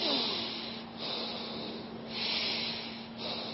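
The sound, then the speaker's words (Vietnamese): A person deliberately demonstrates heavy, forced breathing through the nose, the wrong way to breathe while counting breaths in meditation: about four loud, hissing sniffs in a steady rhythm, over a faint steady hum. “Họ cứ nghe mình hít hà hoài đó.”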